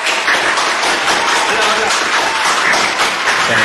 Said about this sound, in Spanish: Bueno, por todos lados han estado estos chicos por acá, así que bueno, les pido a todos los que están acá en el estudio de ADN 502 que los recibamos con un fuerte aplauso